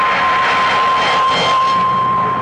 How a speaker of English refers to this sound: The third falling star hissed through the rain clouds, enveloped in green vapor, and buried itself not far away on my left in the fields.